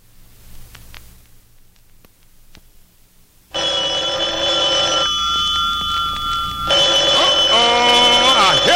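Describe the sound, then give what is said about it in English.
After a few quiet seconds of faint clicks and low hum, a loud, bright telephone bell suddenly starts ringing, sustained and shrill, growing even louder toward the end. “Phone ringing again.”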